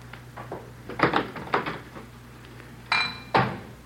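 dishes clattering

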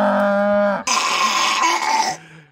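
cow mooing

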